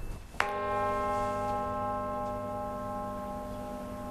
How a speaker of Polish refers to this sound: Możemy spróbować puknąć i wtedy usłyszymy ten dźwięk, który też zostaje w dzwonie, kiedy już te drgania zaczynają wygasać, prawda?